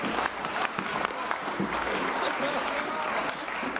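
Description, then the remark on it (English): Steady, dense applause from many people in a parliamentary chamber, a continuous wash of hands clapping at a constant level, with faint voices mixed underneath; the Green members are not applauding. “I hope the cameras might be looking at the Greens, who all had their head down there and were not applauding.”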